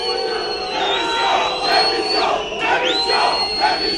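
Around midnight, a dense crowd of protesters at a gate shouts and jeers continuously as a car with closed windows tries to push through them, many voices overlapping, with a high-pitched whistle or siren-like tone sweeping through the din.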